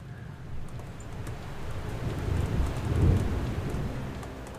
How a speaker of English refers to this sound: I want some dark and stormy music. I want some anticipation built. I want some rain. There we go. That's good.